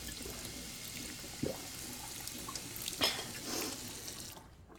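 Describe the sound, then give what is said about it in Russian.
Water streams steadily from a kitchen tap into a glass for several seconds, with a couple of soft knocks along the way, then the flow cuts off abruptly. No one speaks. “На кухне Лин выпивает стакан воды.”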